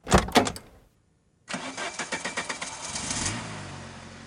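A few brief knocks, a short silence, then a car engine cranks and catches with a rapid chugging pulse before settling into a steady running hum, as the car stops at a bus stop on West Avenue and a girl gets in.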